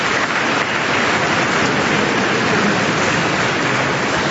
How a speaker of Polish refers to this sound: Bardzo serdecznie wszystkim dziękując dla siebie nawzajem. Bijmy brawo.